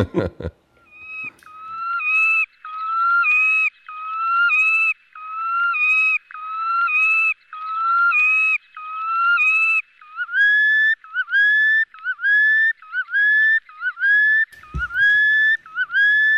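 Great knot calling on its northern breeding grounds, birds calling to one another: a long run of loud, repeated whistled notes in a steady rhythm, each with a quick up-and-down inflection, somewhat like a car alarm. Partway through, the phrases shift to a slightly lower pitch.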